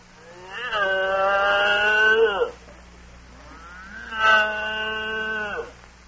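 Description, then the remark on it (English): A cow named Hildegard moos twice, each a long, drawn-out, low groaning call with a rich, buzzy tone, separated by a brief pause. A steady low hum runs underneath. “I think this cow loves me.”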